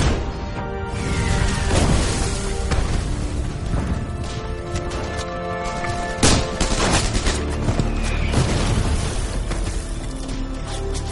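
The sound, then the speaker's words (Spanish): Continuous battle noise: dense bursts of gunfire and sharp shots crackle throughout, punctuated by heavy explosive booms, with a constant rumbling backdrop and no voices; shots force German mountain-division soldiers to take cover behind a dike while a German tank keeps attacking. “Los certeros disparos obligan a los soldados alemanes de la división de montaña a refugiarse de nuevo tras el dique.”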